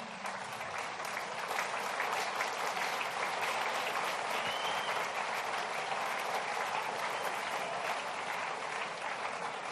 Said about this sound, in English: And so if he comes out and you don't clap, he will not speak. He is that kind of person. So because he's very shy, it is only the clapping that will encourage him.